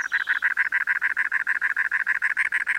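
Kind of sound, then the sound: bird, cactus wren gravelly song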